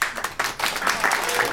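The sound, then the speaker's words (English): A short burst of audience applause from people who have not yet seen the film Get Out, many hands clapping in a dense, crackling patter that holds at a fairly steady, moderate level for just over a second. “Well, Get Out is a movie that, applaud if you still haven't seen it.”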